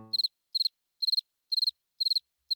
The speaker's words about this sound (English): Thanks for having my back, Crickets.